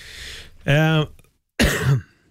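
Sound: cough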